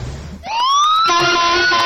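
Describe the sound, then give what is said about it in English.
An ambulance siren starts up after a moment of low street rumble as the ambulance pulls out of a courthouse, its wail sweeping upward and then holding loud and steady, with no one speaking. “There's an ambulance pulling out of the courthouse here.”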